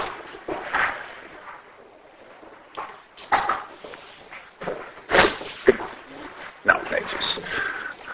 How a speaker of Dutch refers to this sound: Oké, ik wil de deur dicht doen, want ik heb geluid.